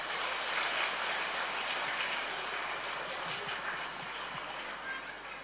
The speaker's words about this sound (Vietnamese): Nếu các bậc phụ huynh mà thấy điều đó dựa trên tinh thần Phật dạy đó là làm cho gia đình mình được hạnh phúc và tương lai của con cháu mình được tươi sáng, thì hãy dâng cho một tràng vỗ tay thật lớn nào.